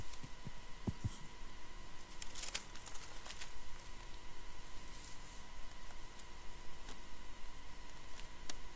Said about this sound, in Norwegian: Nå skal jeg bare legge foran med mikken litt.